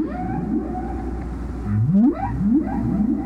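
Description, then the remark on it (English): Humpback whale song: a series of rising, swooping moans that climb in pitch, repeated several times over a low rumbling backdrop, with no voices present. “So it's an interesting, it takes a long time to hear a whale song.”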